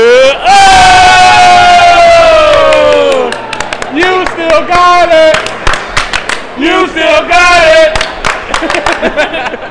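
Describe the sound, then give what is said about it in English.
A small group of people imitating a crowd erupts in loud, excited cheering and whooping, followed by scattered sharp claps and shouts, with a voice speaking briefly amid the lively commotion. “It's literally just us doing it. It sounds like a crowd.”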